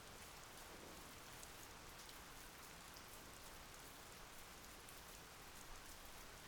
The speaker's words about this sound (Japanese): そっか、まだ結構遠いんだね。私もここからはまだ遠くて、傘もないし、しばらくここで雨宿りするしかないみたいだね。